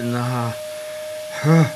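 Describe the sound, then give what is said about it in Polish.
A vacuum cleaner drones steadily in an office on Nowolipska Street, a constant high whine over a broad hiss, while a voice sounds briefly at the start and again near the end. “Niech pani wyłączy ten odkurzacz, to pani opowiem.”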